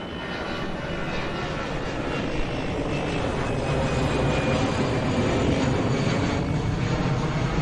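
airplane flying overhead

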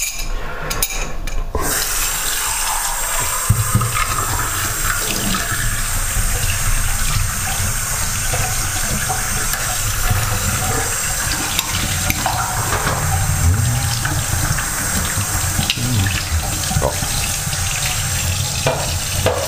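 tap water running

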